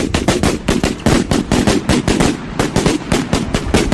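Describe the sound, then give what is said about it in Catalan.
The big traca, a string of firecrackers set off to open a neighbourhood's festa major right after the church bells ring, goes off in a rapid, relentless volley of loud, sharp cracks and pops, crackling steadily for several seconds with no voices. “Perquè començarà doncs amb el repicar de campanes de l'església a 8:15 i tot seguit, com sempre, amb la gran traca.”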